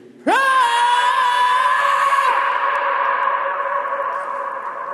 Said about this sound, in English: We are just going to yell as loud as we can in the middle of this mountain and see what it sounds like. One, two, three.